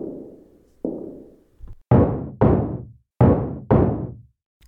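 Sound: knocking on a door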